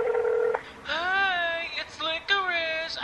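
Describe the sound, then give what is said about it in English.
A half-second, loud electronic touch-tone beep from a phone keypad as someone dials the number on an animal's tag to call its owner, followed by drawn-out wavering whimpering or meow-like cries. “Let me just call the owner.”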